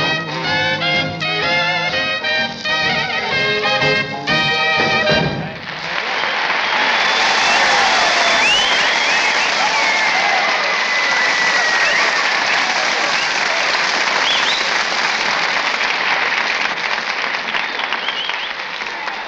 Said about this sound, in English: I don't know, those wolf calls and whistles can't be for me.